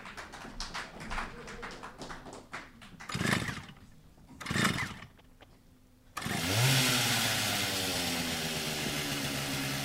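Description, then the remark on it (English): A chainsaw is pulled to start with a few sputtering tugs, then roars to life at about six seconds, running loud and steady with its engine whining. “Yes, that's a familiar sound we tend to hear after a storm. Yes? The chainsaw.”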